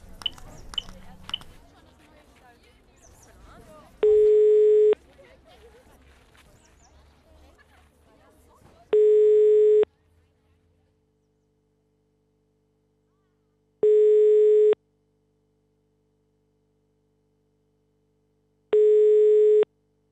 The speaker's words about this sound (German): Ohne zu zögern griff ich zum Handy und wählte die Nummer der Polizei.